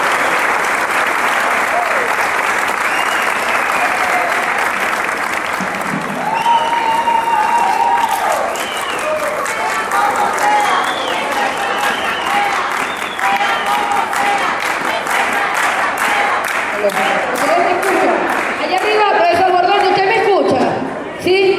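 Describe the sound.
Loud, sustained audience applause fills the whole stretch, dense clapping mixed with crowd cheers and shouts, with a few voices calling out over it.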